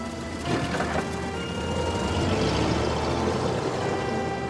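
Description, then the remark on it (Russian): A car engine runs, its rumble building slightly as the vehicle pulls away after Gotsman stumbles into it, a steady mechanical drone with a faint whine and no voices. “Гоцман, спотыкаясь, садится в машину.”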